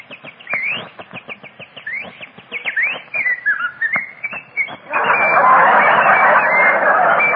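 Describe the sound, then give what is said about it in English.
Birds in the trees chirp and whistle in quick rising calls for several seconds on a sunny spring day in Southern California, busy, then a dense, rushing wash of noise takes over and continues to the end. “Flowers are blooming, the sun is sending down its glorious rays, while the birds are singing in the trees.”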